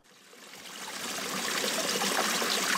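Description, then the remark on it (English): Spring water trickling from the side of a mountain beside a four-lane highway splashes steadily into a plastic jug held under the stream, the bubbling hiss growing gradually louder as it fills. No voices. “As often as he can, Jasper Davis pulls his car off this four-lane highway, where a trickle of water flows from the side of a mountain. Davis holds a plastic jug under the stream.”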